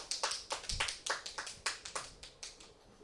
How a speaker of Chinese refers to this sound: 热烈的掌声欢迎。